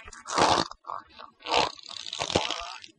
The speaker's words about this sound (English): Government health warning, this next fart is absolutely disgusting.